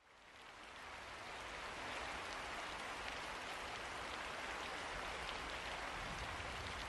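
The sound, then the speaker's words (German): Steady rain pattering unceasingly against the windows of a hut at night, a dense continuous hiss of drops that swells in over the first second or two and then holds constant, fairly loud, with no voices. “Die Tür zur Hütte blieb verschlossen, während draußen der Regen unaufhörlich gegen die Fenster prasselte und die Nacht in geheimnisvollem Schweigen verharrte.”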